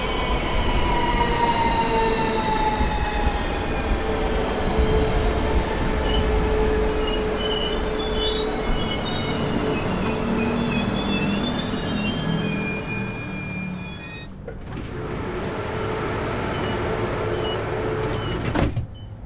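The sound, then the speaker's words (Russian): Trains rumble past at a train station with loud, sustained metallic wheel squeals, high tonal whines gliding slowly downward over a heavy, continuous rolling roar; the noise briefly drops around fourteen seconds, then the rumble resumes. No one speaks. “понятно, что речь идет о каком-то месте с поездами”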